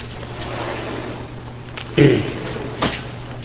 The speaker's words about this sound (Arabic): لا افتح الباب عشان الأخوان برا يسمعون. افتحوا مرة نهائي.